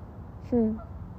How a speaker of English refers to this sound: Do you hear the geese? There's a whole herd of them. A herd, a flock. A gaggle, isn't it a gaggle? There's a whole gaggle of geese on their way over to us.